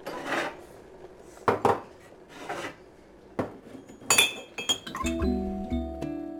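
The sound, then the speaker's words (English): Dishes and a cup clink and clatter as a cup is fetched for pouring hot water, in short bursts, with bright metallic chinks and some scraping, ending in a sustained ringing, tonal rattle as ceramic settles against a hard surface. “Okay, go get me a cup. I need to pour the hot water.”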